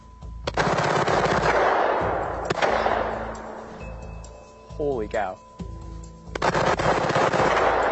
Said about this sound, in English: So converting this regular semi-automatic Glock into a fully automatic machine gun Glock by slipping in these parts. So that was like 90 seconds and you made a machine gun. Let's see how she shoots.